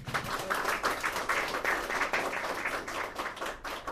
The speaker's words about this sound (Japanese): はい、というわけでですね、私の要求通りの拍手を、ね、返してくるということでね、素晴らしい皆さん訓練されたお客さんでございましてね